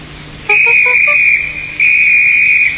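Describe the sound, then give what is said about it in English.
A train conductor blows his whistle at the engine Henry, which stays in a tunnel, in two long, piercing blasts, the second starting after a brief dip and running on to the end, loud with no voices. “The conductor blew his whistle till he had no more breath and waved his flag till his arms ached, but Henry still stayed in the tunnel and blew steam at him.”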